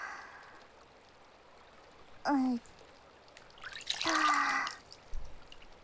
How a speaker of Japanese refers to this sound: わかった。じゃあ気合を入れて包丁研ぎ直すところから。